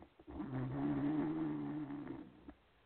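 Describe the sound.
A person imitates the snore of Cricket, a pit bull asleep at someone's feet in row 4 or 5 from the screen during a quiet movie scene, with one drawn-out, rumbling, nasal breath lasting about two seconds. It is steady, and it fades with a short snort at the end.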